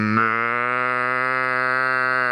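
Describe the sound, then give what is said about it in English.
A man's voice imitates a cow's moo to call passing cows over: one long, steady, droning low call held for a couple of seconds, loud, with no other sounds around it. “every now and then he likes to beckon to a passing cow with his own kind of convincing impression.”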